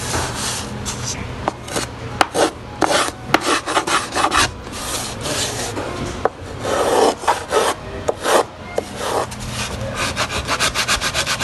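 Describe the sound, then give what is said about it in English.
Steady scraping and rasping of a tool carving the wooden top of an instrument, in uneven strokes with occasional sharp clicks, fairly loud throughout with no voices. “We'll do a little more carving, and we'll listen in a little bit later.”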